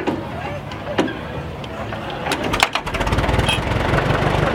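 The four-cylinder Continental engine of a 1919 GMC one-ton milk truck idles at a farm in Meridian with a low, steady chugging rhythm, punctuated by sharp mechanical clicks and rattles, growing a bit fuller and louder in the second half.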